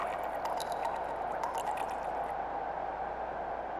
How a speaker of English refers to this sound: Blood drips softly from them. As I watch, it starts trickling towards me.